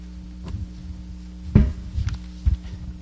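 An outside door swings shut with a dull, heavy thud, surrounded by a few softer knocks and bumps over a steady low hum.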